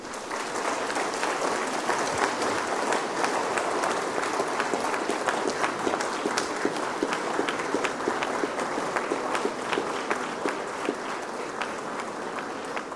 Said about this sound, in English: I would like now to invite you, all graduates, to please stand up. All of you, please stand up. Look around you and give a big round of applause to all those people who've supported you through the years.